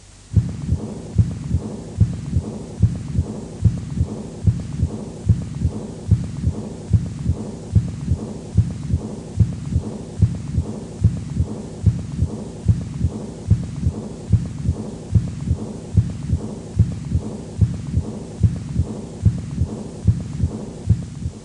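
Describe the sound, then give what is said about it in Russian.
A steady heartbeat of about 25 muffled thumps, with a soft, blowing, low-volume diastolic murmur of aortic regurgitation filling the gaps under a low continuous hum, recorded at the second auscultation point. No voices. “Этот шум обладает мягким дующим тембром и небольшой громкостью.”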